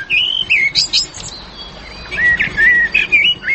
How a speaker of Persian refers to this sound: ای پرنده ها چطور است؟ پرنده کلش پرنده خوش آواز است، سایره است، گلسر است، کنری است.